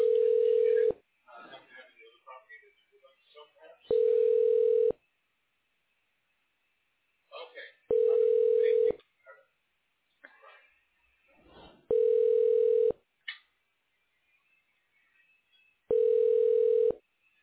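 A telephone ringing tone sounds five times while a call to a medical imaging line is transferred: steady, mid-pitched one-second bursts repeating every four seconds, with faint muffled voices murmuring in the gaps between rings.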